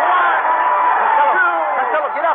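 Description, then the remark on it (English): Thousands of people in a boxing crowd at Madison Square Garden, on their feet as two fighters in the ring exchange blows, roar in a steady, loud wall of overlapping voices and excited shouts, a dense murmur with a few rising whoops and no break for the full length. “Thousands of people are assembled in Madison Square Garden.”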